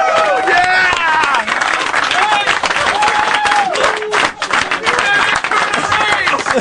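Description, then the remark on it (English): Loud, sustained applause from a crowd, dense clapping filling the whole stretch, with excited voices whooping and shouting over it, energetic throughout. “A thunderous round of applause.”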